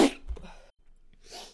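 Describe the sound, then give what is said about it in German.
A single forceful sneeze bursts out, followed by a brief pause and a softer, breathy exhale. No one speaks. “Nur weil ich niesen muss”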